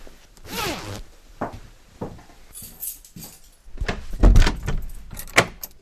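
A jacket being zipped up all the way to the neck, a few quick rasping pulls mixed with clothing rustle and light jangling clinks, fairly loud with short pauses between bursts.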